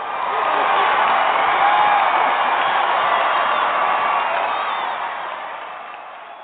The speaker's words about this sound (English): Did you hear your cheers?